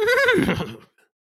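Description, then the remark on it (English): A single loud horse whinny with a quavering, wavering pitch that slides downward and fades out within a second, heard on its own with no talking. “I'm gonna put my ear up to it and see if I was right that it was a horse.”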